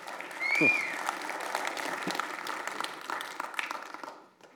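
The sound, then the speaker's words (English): An audience bursts into sustained applause, a dense crackle of many clapping hands with a few whoops and a rising whistle early on, holding steady before fading out at the end. “Yeah, you can give that applause.”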